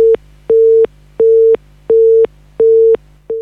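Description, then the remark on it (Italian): A telephone busy tone after a dropped call repeats in steady on-off pulses, five loud beeps of equal length separated by short gaps, with a low hum underneath and no voices. “Allora, sicuramente abbiamo avuto un problemino telefonico, adesso la ricontattiamo.”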